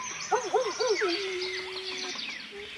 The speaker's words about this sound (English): I like that lone coyote in the background.